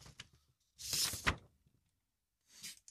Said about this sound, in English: the noises made by the doors are actually the sound of an A4 piece of paper being removed from an envelope